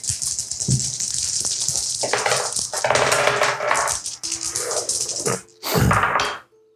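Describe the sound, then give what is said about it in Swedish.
Several dice clatter and tumble across a hard tabletop in overlapping bursts as everyone rolls a travel roll, rattling and knocking for a few seconds, with a final louder roll near the end. No voices are heard. “Och jag vill be att ni allihopa rullar ett travel-slag åt mig.”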